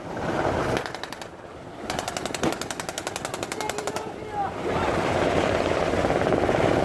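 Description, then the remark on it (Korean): Rapid bursts of automatic gunfire from several weapons, fired together from a ship toward the sea by actors playing terrorists in a joint coast guard counter-terror drill off Haeundae, Busan, South Korea, rattling steadily for a few seconds over a rumbling, windy outdoor background with engine noise. “훈련 시작을 알리는 지휘관의 외침이 울리자 테러범 역할을 맡은 배우들이 배 위에서 바다를 향해 일제히 사격을 시작했습니다.”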